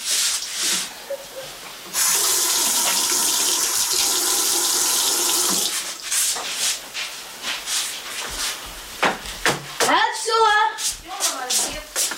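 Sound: tap water running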